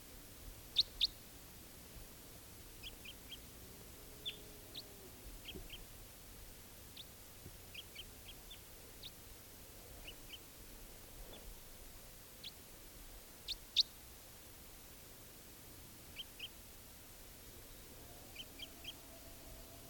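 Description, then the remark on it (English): A lovebird perched high in a tall Douglas fir gives sharp, high chirps in short bursts and pairs, scattered irregularly over twenty seconds above a low, steady background hiss. No one speaks. “lovebird.”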